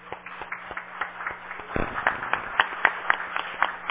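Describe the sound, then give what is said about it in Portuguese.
An audience applauds a martial arts team for bringing championship titles to Divinópolis, starting as scattered claps and swelling into louder, denser clapping about halfway through, with sharp individual claps standing out over a faint steady hum. “Então eu quero uma salva de palmas para vocês.”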